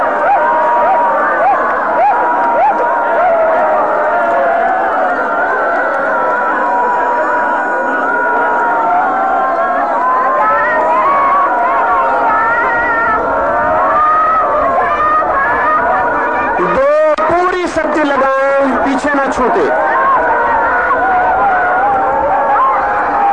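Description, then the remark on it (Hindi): During a cathartic meditation, a large group lets go completely for one minute, shouting, wailing and crying out all at once in a loud, unbroken wall of voices. A few sharp bursts break through near the end. “तीन पूरी शक्ति लगा दें, एक मिनट के लिए बिल्कुल पागल हो जाएं, भूले सब, चिल्लाएं, नाचे, रोए, हंसे।”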